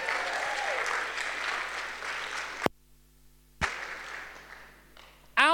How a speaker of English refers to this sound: But at the end of 36 hours, ladies and gentlemen, give applause.